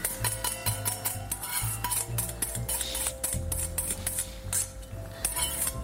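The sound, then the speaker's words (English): Whisked eggs are poured slowly into the center of a pan on low heat with spices already in, then stirred, with a utensil scraping and clicking against the metal in quick, irregular strokes over a steady low hum. No one speaks. “And while it's on low, pour the eggs in slowly, right into the center.”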